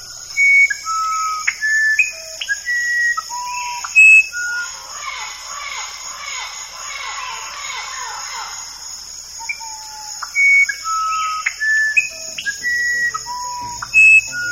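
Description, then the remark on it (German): An Orpheus wren sings a melody of clear, pure whistled notes at shifting pitches, pauses while a busy patch of chattering calls fills the middle, then resumes its melody exactly where it left off, over a steady high insect drone. “Dann setzt der Orpheus-Zaunkönig seine Melodie exakt ab der Stelle wieder fort, an der er zuvor aufgehört hatte.”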